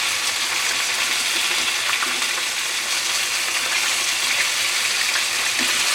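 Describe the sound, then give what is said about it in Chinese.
A steady, dense crackle of pastry-crusted food frying in a small amount of hot oil over low heat for the whole stretch, bright and hissy with small pops scattered throughout, even in loudness and with no voices. “那因为我油其实放的没有很多，所以你一定要就是侧面也要让它油炸一下，比较能够受热均匀。”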